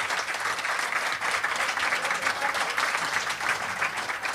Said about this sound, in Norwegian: Ja, og så applaus nå da